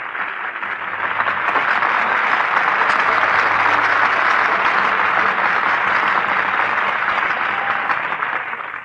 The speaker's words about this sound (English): Takes the hand of our conductor, Bronislaw Gimple, bows to our studio audience. Once again, Mr. Ricci comes forward to acknowledge the applause of his studio audience.